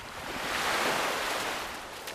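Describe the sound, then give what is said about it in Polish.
Waves of the Polish sea break on the shore in a steady, hissing rush that swells to a peak and slowly recedes, with no voices. “Lub lubimy na nią patrzeć, słuchać, jak pięknie szumi, ale nie wchodzimy do niej.”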